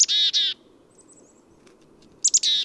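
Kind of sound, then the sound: bird, chickadee calls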